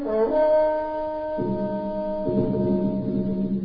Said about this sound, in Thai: ในขณะนั้นเอฮูดซึ่งได้หนีมาไกลแล้วได้ขึ้นไปบนภูเขาเอฟราอิมและเป่าแตร